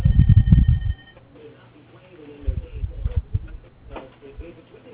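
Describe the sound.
A telephone rings with a steady electronic tone for about a second, loud at first, then cuts off as people begin talking.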